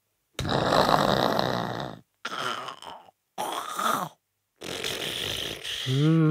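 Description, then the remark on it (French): A bear with pointed teeth, asleep in a cave, snores in four deep, raspy breaths separated by short silences, the first long and rumbling, the last ending in a low, drawn-out groaning tone. “Par chance, le terrible animal dort comme un loir.”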